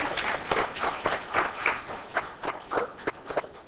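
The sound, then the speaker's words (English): An audience claps in a steady patter of overlapping handclaps for a few seconds, moderately soft and uneven, with no one speaking over it. “So give them a round of applause for their help.”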